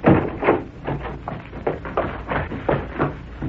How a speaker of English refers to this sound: When they reached Victor Dundas's apartment, they pushed the door open and rushed in.